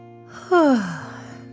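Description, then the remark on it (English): A person performs a dragon's drawn-out yawn after it stretches at bedtime, starting with a sudden loud intake and sliding down in pitch into a breathy fade, over a faint steady background hum. “Then the dragon stretched and yawned.”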